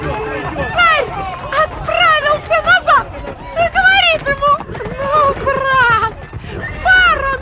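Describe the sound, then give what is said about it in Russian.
Horse hooves clip-clop steadily while horses repeatedly neigh and whinny as they are led to a stable, with a murmur of voices in the background. “Повели коней в конюшню, но дорогой, как на смех, кони с ног их сбили всех.”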